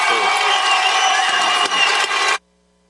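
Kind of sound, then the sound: crowd, audience cheering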